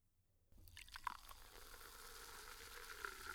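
Cider fizzes in a glass, a dense, steady hiss of tiny bubbles with scattered bright pops and crackles that starts abruptly after a brief quiet moment and continues without any talking.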